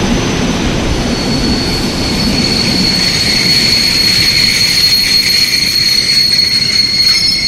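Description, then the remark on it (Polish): A train rolls into a station, a loud, steady rumble with a high metallic squeal of brakes running over it throughout, with no voices. “Od razu tym samym pociągiem pojedzie do domu.”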